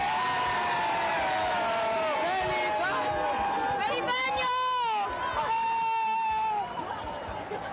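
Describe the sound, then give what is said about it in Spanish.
A large crowd in the Puerta del Sol celebrating the New Year erupts in loud, continuous commotion, with overlapping shouts, high-pitched cheers and whoops rising and falling for several seconds before easing slightly at the end. “Todo este follón hace 9 minutos en la Puerta del Sol.”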